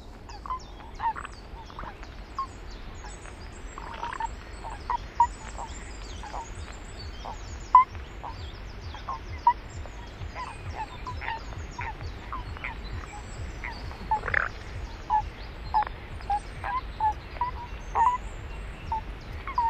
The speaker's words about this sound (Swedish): Ska vi lyssna på paddan också då? Det tycker jag.